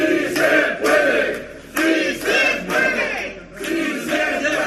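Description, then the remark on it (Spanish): A crowd from the Plataforma de Afectados por la Hipoteca protests outside a courthouse against the government of Pedro Sánchez reactivating evictions during the pandemic, chanting in loud, rhythmic unison about five forceful phrases with brief dips between them, the massed voices rising and falling in a steady beat. “Y eso sí, primer día y primera protesta en el exterior de la plataforma de afectados por la hipoteca.”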